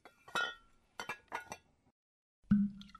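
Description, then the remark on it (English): Wine glasses clink together several times in quick, uneven succession, bright ringing chimes, followed by one last fuller knock and ring, as men pour themselves full glasses of wine for a toast; no one speaks. “Let each man pour himself a glass of wine and fill it full, for we drink death to the Yankees.”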